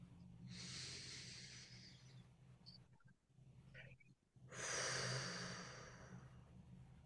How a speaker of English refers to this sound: Some nice cleansing breaths here. In through the nose again. Out through the mouth. One more.